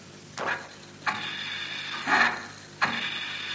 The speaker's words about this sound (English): It's a milking machine with a leaky teat holder. The left one. No, I say no, because one can hear a chicken at the end. It's 40 points to the girls, because it was a milking machine with a leaking teat holder.